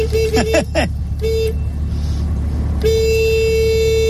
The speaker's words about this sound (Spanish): Así suena el claxon de un 600. Así suena, sí señora.